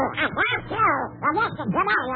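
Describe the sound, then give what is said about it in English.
A voice imitates a duck, pouring out a rapid stream of raspy, quacking syllables in a continuous garbled babble, loud for about two seconds; it is the Duck's voice heard over a crystal set radio. “I thought those pesky electric eels were causing static in my crystal set. But now I know it's only the Duck's voice.”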